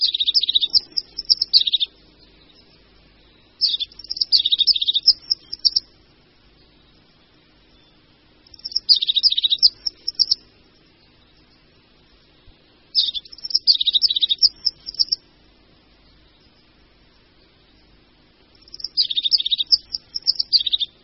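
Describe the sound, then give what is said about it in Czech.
A crested tit calls in short, high trilling bursts, about five phrases spaced a few seconds apart, clear against a quiet background. “Cikora parukáška je drobný, mezi lidmi méně známý pěvec. Je to sýkorka, která obývá především souvislejší jehličnaté lesy, takže příležitost, aby ji mohl člověk pozorovat někde v lidských sídlištích, prakticky nenastává.”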